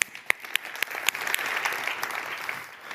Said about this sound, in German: Ja, gebt euch mal einen riesen Applaus.